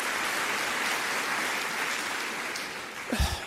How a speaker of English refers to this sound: A sustained applause for that line, oh, by the way, at Benedictine College.